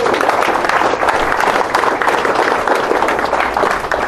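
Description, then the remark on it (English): A crowd applauds the Knights of Columbus, a loud, steady wash of many hands clapping at once that holds at an even level without pause for several seconds, with no voices rising above it. “So, by the way, give the Knights of Columbus a big round of applause.”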